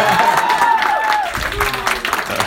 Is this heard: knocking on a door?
no